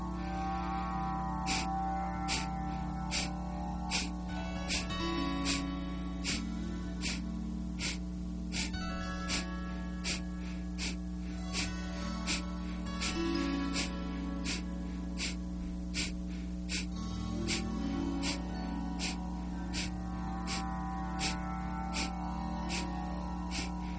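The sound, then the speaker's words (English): Rapid, forceful nasal exhalations in a second round of 30 Kapalabhati breaths, sharp puffs at a steady quick pace, over a soft sustained musical drone. “Preparing for a second round of 30 Kapalabhati. Drawing in a breath.”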